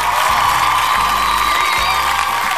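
A crowd claps and cheers steadily throughout for a live music group, a dense, loud wash of applause with scattered whoops and voices mixed in.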